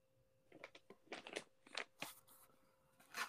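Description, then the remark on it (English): Crisp crunching of small strawberry-covered mini pretzels, a quick run of sharp bites and chews that crackle irregularly before a final loud crunch, with no talking. “Strawberry covered mini pretzels.”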